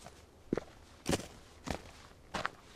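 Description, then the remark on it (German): Footsteps climbing a steep path, the Franz-Josef-Weg on the island of Loschin: four slow, evenly spaced crunching steps, each a short gritty scuff over a quiet background, with no voices. “Auf der Insel Loschin steigen wir auf steilen Pfaden bergan.”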